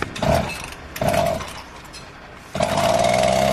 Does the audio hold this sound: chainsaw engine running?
yes